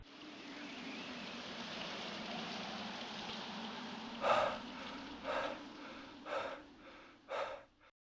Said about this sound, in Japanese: 降りしきる秋の長雨で、すべての赤が洗い流されていくような錯覚に陥った頃、彼の歩みが止まった。